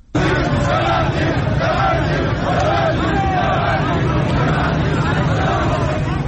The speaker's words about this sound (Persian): ویدیوهای منتشر شده از این تجمع در ظهر روز یکشنبه در شبکه‌های اجتماعی نشان می‌دهد که گروهی از کسبه و مردم در خیابان با سر دادن شعار ببندید ببندید از صاحبان کسب و کارها و مغازه‌ها خواستند که به تجمع اعتراضی آنان بپیوندند.